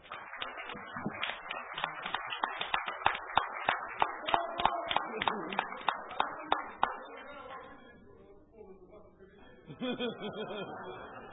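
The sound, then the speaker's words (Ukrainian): Rhythmic applause for a deputy at a regional council (oblast rada) session, steady and fairly loud, with claps coming in an even beat for about seven seconds before fading into murmuring voices and a burst of talk or laughter. “Вы действительно самый лучший депутат, и эти аплодисменты для вас.”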